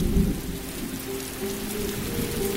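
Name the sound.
heavy rain with thunder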